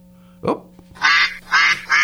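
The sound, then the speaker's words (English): A duck quacks three times in quick succession, loud, each call a harsh nasal burst, following a brief vocal sound and over a faint steady hum. “was over there laying a duck egg.”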